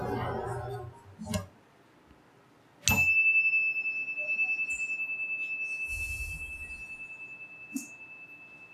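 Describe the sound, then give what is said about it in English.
A meditation chime is struck once at the start of a moment of silence, its clear, high tone ringing out steadily and lingering for several seconds amid quiet, with faint background rustles. “I'll ring the chime once at the beginning and once at the end.”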